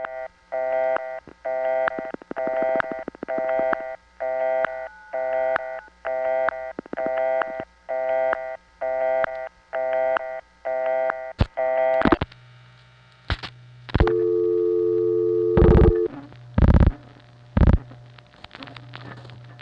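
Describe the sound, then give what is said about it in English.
A steady run of about a dozen touch-tone dialing beeps from the speaker's other phone line, evenly spaced, gives way to sharp clicks and a few longer, louder line tones and flash bursts, with no voices. “When you hear somebody come in flash and touchstone and all that, that's me on my other line.”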